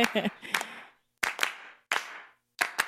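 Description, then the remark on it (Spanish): Sharp hand claps land in quick pairs and single beats in a steady rhythm, each ringing out with a reverberant tail between groups, with a brief sung voice at the very start, in a short, simple song made only of voices and claps. “Nada más son voces con claps y aplausos, no sé si es aplausos.”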